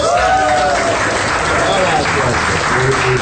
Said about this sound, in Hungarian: Harag atyának így tapsoltak a mi barátaink.